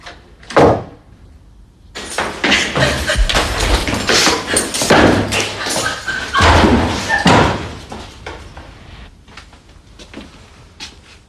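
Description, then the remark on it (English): A man opens a door and a woman runs out as it bangs shut: a sharp thump, then several seconds of loud rattling and clattering, trailing off into a few faint clicks. No one speaks. “He opens the door and she runs out.”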